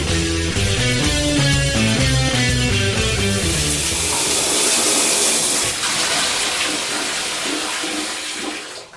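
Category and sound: household object, shower water running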